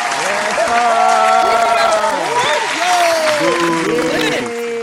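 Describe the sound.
A loud, steady round of applause lasting about five seconds, with several voices whooping and cheering over the dense clapping throughout.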